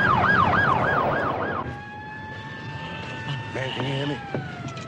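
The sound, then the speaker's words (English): An ambulance siren wails loudly with a fast rising-and-falling warble for about a second and a half as the ambulance rushes a beaten man to hospital, then cuts off, leaving steady tones, background rumble and faint muffled voices. “Later, an ambulance rushes a brutally beaten Henry J. Jackson to hospital”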